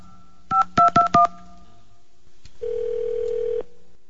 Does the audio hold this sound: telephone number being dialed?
yes